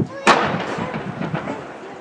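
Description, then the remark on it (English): A sharp, loud firework bang rings out and echoes off the surrounding city buildings, trailing into a rumbling reverberation with a couple of fainter pops following. “It's echoing. I don't know if you can hear the echo on it. It's because it's directly towards the buildings.”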